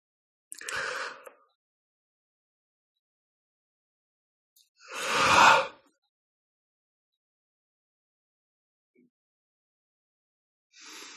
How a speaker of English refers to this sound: Yawning is another form of energetic release. That's why you hear me yawning quite a bit tonight.